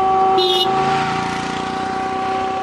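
A vehicle's engine hums steadily, with a brief high-pitched squeal near the start as it pulls in and stops at the Kabawa police checkpoint, an entry post a few kilometres from the town of Maradi on the Zinder–Maradi road, where passengers are tested and vehicles disinfected. No one speaks.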